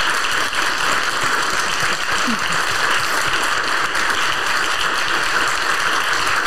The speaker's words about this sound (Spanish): Gracias, gracias, gracias. Damos un aplauso con mucho amor y admiración.